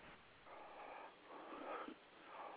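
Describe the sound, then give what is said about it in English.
A caller on a live on-air phone call breathes heavily and rhythmically into the telephone mouthpiece, several slow breaths in and out with a raspy, snorting quality over a narrow, muffled phone line, no words spoken. “you're live on the air, and you're breathing in the phone.”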